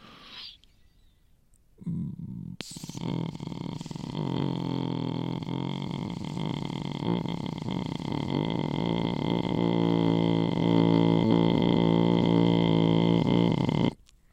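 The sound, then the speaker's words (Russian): A Yakut shamanic-style beatbox: one voice holds a low, buzzing throat drone with bright overtones for about twelve seconds, steady and fairly loud. “Это не битбокс просто, а скорее такой шаманский битбокс. Якутско-шаманский битбокс.”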